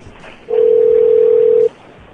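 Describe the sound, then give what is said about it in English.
A single steady ringing tone of a call placed from a computer to a cell phone sounds once for just over a second, clear and fairly loud, over a faint background hiss with no talking. “Oh, I hear it ringing.”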